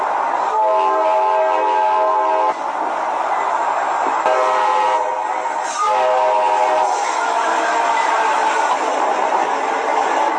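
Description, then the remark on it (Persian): A train, the Magic Train, rumbles steadily along the tracks, loud, with a continuous roar of wheels on rails and sustained tonal whines rising and falling over the running noise. “که زحمت کشیدن با این قطار رفتن و این گزارش رو برای ما تهیه کردن.”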